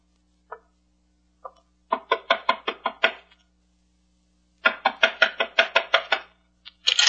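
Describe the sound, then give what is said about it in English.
Sharp knocking on a door, fairly loud: two single taps, then a quick burst of about eight raps, a pause, and another rapid run of knocks with no voices. “Knock on the door, Shannon. This gun says knock.”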